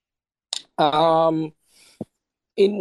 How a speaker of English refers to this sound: excuse me. Sorry, guys. I have been coughing like for the past like couple of days.